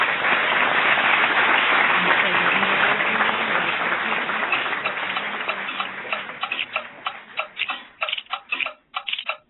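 Dense, rapid clicking gradually thins out into distinct, evenly spaced clock ticks that grow sharper and more separated toward the end, fairly loud and close.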